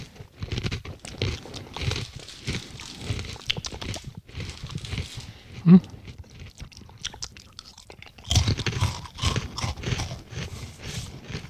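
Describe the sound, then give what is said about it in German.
Crunching of crisp tomato-salsa flavored crackers, a steady run of crackly bites and chewing that pauses briefly midway, marked by one sharp thud, then resumes loudly. “Die knuspern sehr schön. Und sie sind auch noch knusprig.”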